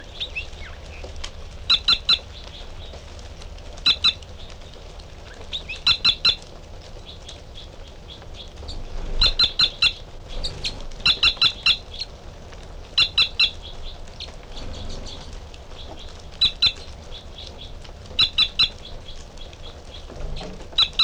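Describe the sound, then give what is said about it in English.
A male bird sings short, high-pitched song phrases, each a quick cluster of sharp notes, repeated about every two seconds over a steady low background hiss. No one speaks. “And the male giving song phrases behind.”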